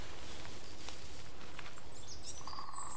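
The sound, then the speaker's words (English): A goldcrest gives thin, very high-pitched calls near the end, faint and brief against a steady outdoor hiss, with no one speaking. “And that's a goldcrest, I think.”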